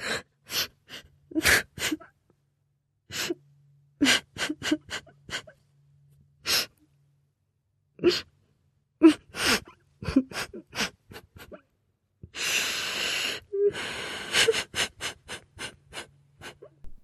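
A small child who is being scolded sobs in short, gasping catches of breath with pauses between, building toward a denser, louder burst of crying near the end.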